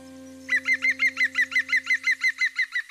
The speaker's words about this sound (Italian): Eh no, Picchio Verde, adesso non posso più parlare di voi.